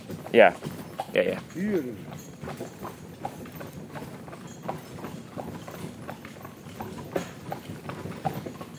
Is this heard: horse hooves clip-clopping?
yes